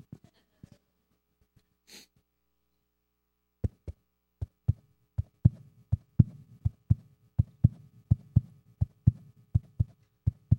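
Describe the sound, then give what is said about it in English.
A rapid fetal heartbeat heard by sonogram in the mother's womb, fast steady thumps with a soft whooshing rumble between them, starting after a few faint clicks and continuing alone and fairly loud. “That was the heartbeat that was heard from the sonogram in mother's womb.”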